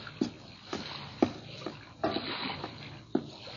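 A native canoe glides through shimmering sea water at night with soft, regular paddle splashes every half second or so, each dip followed by gentle swirling and dripping. Quiet, with no voices.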